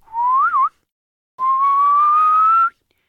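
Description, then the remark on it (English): A person whistles two clear notes: a short wavering one that dips and rises, then after a pause a long steady tone that slowly climbs in pitch. Fairly loud, with no talking. It is the whistle of someone bringing the goats home at sunset, in the story Heidi. “When the sun was setting, Heidi heard a whistle.”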